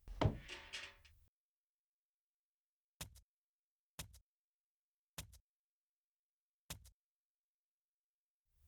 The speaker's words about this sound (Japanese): 檻の中に入ります。第一ドアのロックを解除。第一ドアをロック。第二ドアのロックを解除。第二ドアをロック。